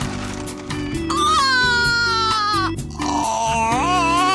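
Pigs squeal loudly in two long, wavering high-pitched bursts, with low grunting and snorting rumbling underneath throughout.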